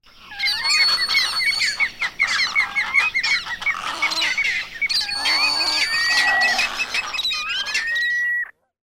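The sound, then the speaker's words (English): A large flock of birds calls all at once, a dense, continuous clamor of honks, squawks and whistling cries overlapping loudly, with no voices. “This week, we drop in on a crowd of eager flyers as their long-distance flights are being announced, but no planes are taking off.”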